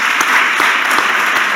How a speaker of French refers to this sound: Applaudissements.